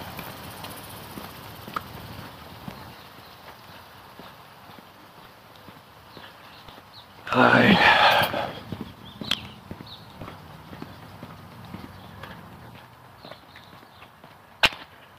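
Rain Bird pop-up sprinklers tick steadily outdoors in the morning, a rhythmic clicking over a soft hiss, with a brief loud spraying burst midway and a sharp click near the end. No one speaks.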